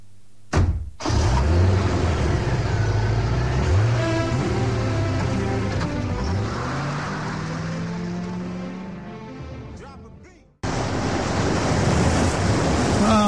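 A loud, steady roar of surf washes through, waves rushing continuously rather than crashing one by one, with a low droning hum rising underneath before everything cuts off abruptly.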